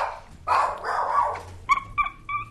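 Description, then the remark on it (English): A family dog barks at a home in Concord, Massachusetts, first a rough, noisy burst, then three short, high-pitched yips in quick succession. “Casey alternately bossing around one of the family dogs”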